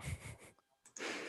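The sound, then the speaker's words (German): A loud sneeze bursts out with a harsh, breathy rush of air, followed by a brief quiet gap and then another noisy, hissing outburst. “Gesundheit.”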